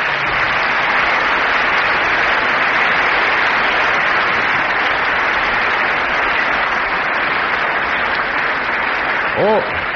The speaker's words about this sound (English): we have in our audience some very distinguished guests, namely the Lord Mayor, Councillor Ian Beaurepaire, and the Lady Mayoress, Mrs. Beaurepaire, and to them I would ask you to give a very special welcome by applause.